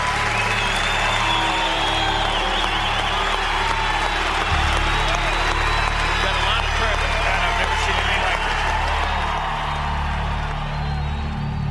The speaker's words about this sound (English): There was a huge just outpouring of noise and cheering, and Daly was just soaking it all up. Now listen, the applause won't stop.